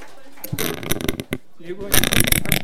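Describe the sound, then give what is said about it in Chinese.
A burst of audience applause: many quick, sharp claps overlapping in an irregular, crackling patter that starts after a brief pause, dips for a moment, then swells again louder toward the end. “刚刚姐妹举手了，你来讲一下，来到前面来讲一下，我们给他鼓鼓掌好吗？”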